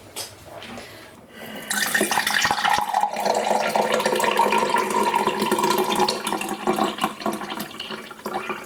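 Iced tea being poured into a glass: after a brief quiet start, a steady, splashy stream of liquid runs continuously for about seven seconds, with no one speaking.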